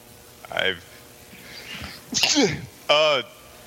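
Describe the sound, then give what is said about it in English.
A sudden, sharp sneeze bursts out with a breathy hiss and a falling vocal tone, surrounded by brief voiced sounds and quieter background chatter. “No, I sneezed.”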